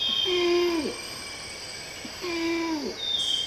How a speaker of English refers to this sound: And this one of orangutans calling in a Sumatran rainforest.